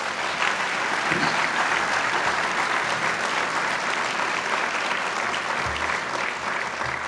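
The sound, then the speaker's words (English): Sustained audience applause in Cincinnati for a city official, a dense steady wash of many hands clapping at an even, loud level for about seven seconds with no one speaking. “Let's give Scott a round of applause.”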